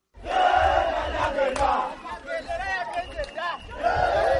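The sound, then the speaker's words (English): A large crowd of ruling NRM party supporters, dressed in yellow, cheers and shouts at the Kololo airstrip in Kampala, Uganda, awaiting President Yoweri Museveni, with marching bands, in loud, sustained waves of many overlapping voices, with chanting swells rising and falling and no single speaker standing out. “Crowds were in high spirits as they made their way to the Kololo airstrip Thursday.”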